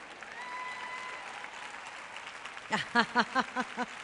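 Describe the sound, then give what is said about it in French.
An audience applauds with a steady wash of clapping, and toward the end a few loud, rhythmic vocal bursts rise above it, like cheering or laughter from the crowd. “Dave me dit toujours, quand les gens applaudissent, ils savent déjà.”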